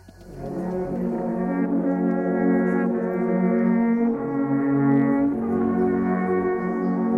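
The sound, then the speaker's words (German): Several alphorns of the Valais-Vaud alphorn ensemble "Echo de Chalet" play the piece "Beim Wegkreuz" together in Villeneuve, in sustained, mellow low chords, the notes shifting every second or two while the volume stays steady and full throughout, with no voices. “«Beim Wegkreuz» heisst das Stück, welches das Wallis-Waadtländische Alphorn-Ensemble «Echo de Chalet» in Villeneuve anstimmt.”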